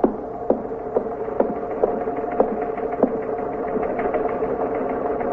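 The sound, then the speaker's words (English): A teletype machine clatters steadily with a continuous mechanical whir and rapid, irregular clicks and strikes, a busy rhythmic chatter with no voices. “You want to see what that is on the teletype?”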